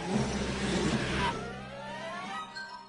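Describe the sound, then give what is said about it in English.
A small clown car engine revs loudly for about a second, then eases off into a steady idle with rising and falling whine, with no voices. “I got my little clown car.”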